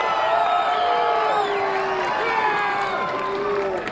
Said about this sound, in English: So you're in the rally and it sounds like people were pretty hyped to see their candidate as he took the stage.